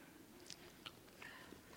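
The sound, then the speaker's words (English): Quiet chewing of a piece of food, eaten a little bit at a time: a few crisp, wet bites and mouth clicks spaced irregularly over a soft background hiss, with no talking. “I mean, chew it, piece it, a little bit at a time.”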